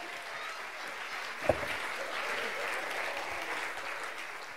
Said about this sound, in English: Let's give the chicken a big round of applause.